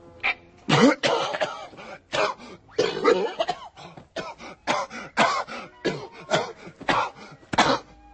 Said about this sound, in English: Yo, this shit must be good, B. My man ain't cough like that since back in the day, yo.